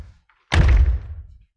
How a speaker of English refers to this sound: shut the door.